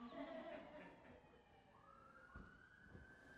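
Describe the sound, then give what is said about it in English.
An ambulance siren wails steadily, its tone sliding up and down as it passes beneath faint background hum. “Let's say a prayer for whomever that ambulance is going for.”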